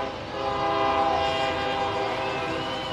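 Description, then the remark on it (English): A train rumbles steadily past, its horn sounding a sustained, droning blare over the rolling rail noise for the full few seconds. “Might be a good thing the train's rolling by right now.”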